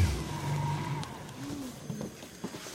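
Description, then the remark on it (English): A boat motor drones steadily as the boat travels up a small river to a hunting camp near Shishmaref, a continuous engine hum with slight shifts in pitch and a faint rush of water underneath, with no voices. “Tony pilots his boat up a small river to his hunting camp”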